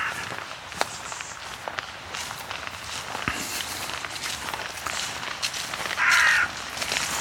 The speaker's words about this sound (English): Raven calling from above.